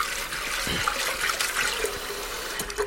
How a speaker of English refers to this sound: We're just going to give a rinse to the pre-soaked chana dal to make sure it's all cleared out.